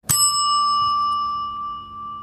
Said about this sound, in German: Während andere Häuser den Hammer schwingen, erklingt hier eine Glocke. Vergleichbar mit der im Hotelgewerbe üblichen Portier- bzw. Empfangsklingel. Das finale Pling begleitet im Dorotheum seit jeher die Bieter und fixiert das Endgebot.